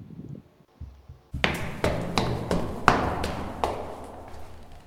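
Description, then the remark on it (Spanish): After a brief quiet moment, someone knocks firmly on a door about seven times in a loose, uneven rhythm. The thuds are fairly loud, with no talking. “Puerta.”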